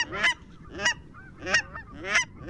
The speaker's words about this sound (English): And the nasally yelps of the cackling goose?